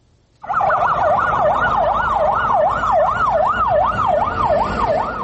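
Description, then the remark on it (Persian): A fire engine siren at a market fire wails continuously, its pitch sweeping smoothly up and down in a steady, rapid cycle over a low rumble of traffic and engine noise, loud throughout with no voices. “رواهای ماشین های سوختار خاموشکنی زود زود دیده می شود.”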